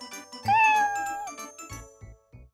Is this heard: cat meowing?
yes